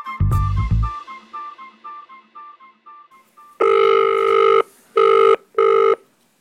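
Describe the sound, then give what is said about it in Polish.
A quick string of evenly spaced dialing beeps, then loud buzzing ringback tones of an outgoing phone call from Łódź, Poland: one long ring and two shorter ones, with no voices. “do której udało mi się dodzwonić i krótko z nią porozmawiać na temat Nagrody Oscara i wielu innych rzeczy związanych z jej wielką karierą.”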